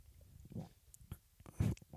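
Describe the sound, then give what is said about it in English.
Someone takes a quick sip of a protein shake: two soft, wet slurping gulps separated by faint mouth clicks, quiet overall with no talking. “I'm just going to have a quick sip of my protein shake.”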